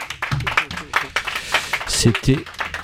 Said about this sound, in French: Je crois qu'on peut applaudir encore une fois.